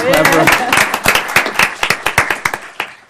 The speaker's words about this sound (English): You can clap.